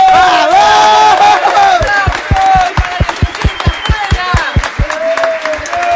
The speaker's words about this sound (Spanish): Otro nuevo aplauso, por favor, para Falla de Música.